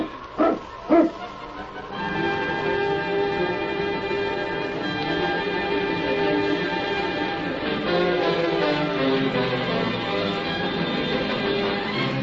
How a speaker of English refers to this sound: Get the dogs up, King. On, King! On, you husky!